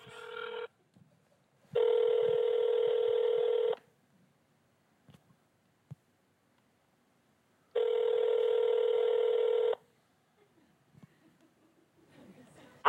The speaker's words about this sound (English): Watch this, I'm just gonna push call. Are you ready?